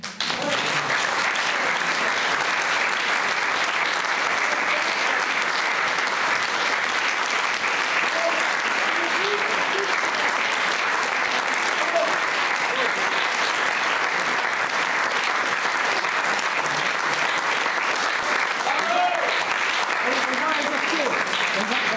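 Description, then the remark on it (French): Sustained audience applause, a dense, steady wash of many hands clapping that holds at an even, fairly loud level for about twenty seconds with no voices standing out. “Parce qu'en Chine, ce ne sont pas les spectateurs qui applaudissent, ce sont les acteurs, lorsqu'ils sont présents, ils sont contents de leurs spectateurs.”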